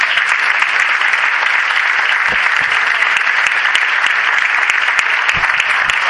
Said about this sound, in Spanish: Un fuerte aplauso para Industrias Wittmann.